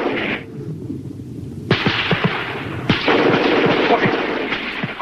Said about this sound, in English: From the clearing, the squad of spies advances. Flashes of gunfire pierce the fog.